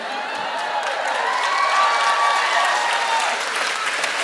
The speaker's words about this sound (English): It's not when you'd need a content warning, but I went for it and people applauded.